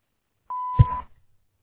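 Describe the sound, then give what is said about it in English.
A single steady electronic tone at about one kilohertz rings for half a second, the P&J Florist answering machine beep after its greeting, followed by a brief soft clunk and rustle before silence. “Unfortunately, we can't get to the phone right now, but if you leave your name and number after the beep, we'll get back to you as soon as possible.”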